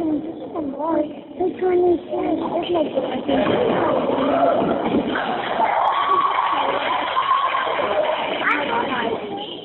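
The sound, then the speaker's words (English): A voicemail recording of a busy basketball game: a steady crowd of voices and shouts fills the scene, a ball dribbles, and short, high-pitched sneaker squeaks stand out in the first few seconds. “It sounds like a basketball game because you can hear a ball dribbling and you can actually hear sneakers squeaking.”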